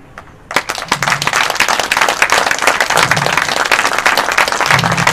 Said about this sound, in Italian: Però vi invito a farne uno, grande, grande, grande, grande, ma un applauso che nasce dal cuore, ognuno ha la propria anima, non a me.